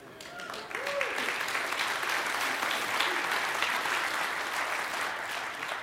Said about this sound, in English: However, it's great that you applauded, but now let me tell you the truth.